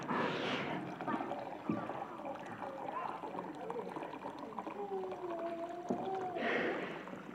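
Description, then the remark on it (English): Water pours slowly from a special jug, a steady gurgling trickle with a ringing, gliding tone that rises as the vessel fills, faint voices murmuring in the background. “So this thing's great, but it pours really slowly.”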